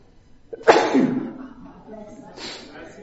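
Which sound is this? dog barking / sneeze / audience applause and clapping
sneeze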